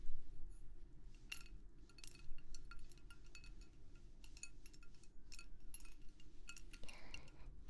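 Ice cubes taken from the refrigerator clink and rattle against a glass in a quick, irregular series of bright taps over a low steady hum, with a brief rustling slide near the end.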